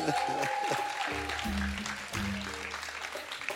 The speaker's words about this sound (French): Je vous demande d'ailleurs d'applaudir.